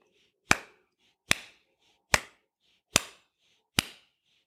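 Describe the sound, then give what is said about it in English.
Five crisp hand claps ring out one after another at an even, steady pace, each sharp with a quick fading tail, and no voices. “When I think about rhythm and clapping your hands, there's a steady beat.”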